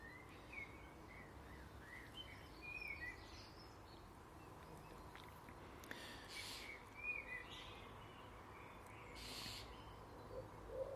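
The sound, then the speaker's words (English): A wood pigeon coos softly in a garden, its low repeated phrases finishing on one note, blending into a quiet, fresh outdoor morning with faint chirps from other birds and steady background hiss. “You hear that wood pigeon?”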